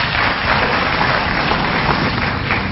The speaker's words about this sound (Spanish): Quiero decirles que a mí me pone muy contento cuando aplauden a mi ministro de Economía,